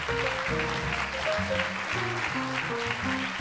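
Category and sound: crowd, audience applauding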